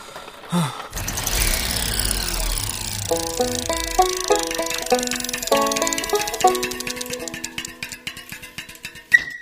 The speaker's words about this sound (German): Autotür auf, Schultasche auf den Rücksitz, Kind auf den Rücksitz, Autotür zu, Motor an und los.